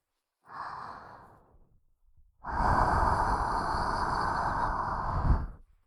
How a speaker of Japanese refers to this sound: 息吹きかけられるだけでピクピクしちゃうね。